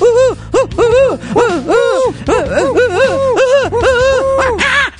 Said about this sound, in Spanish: Los búhos, lechuzas, tecolotes, como quieran llamarlos, ululam, se les puede dar ese nombre, póngale a los aullidos del mico, si así lo desean, pero se les atribuye más a estas aves.